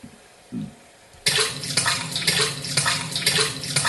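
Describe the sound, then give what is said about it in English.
A quiet moment with a brief low thump, then water suddenly starts gushing steadily, like a tap or faucet running at full flow, loud, continuing to the end. “This is water. It looks like genuine water.”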